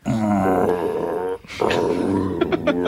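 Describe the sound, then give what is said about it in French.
A big, sleepy, furry cartoon creature with a cat's head on a bear's body, rabbit ears and owl eyes lets out a deep, rumbling roar after being disturbed, in two long, loud bursts separated by a brief pause, with no one talking over it. “Bon, là tout de suite on le dérange un peu, il a encore sommeil.”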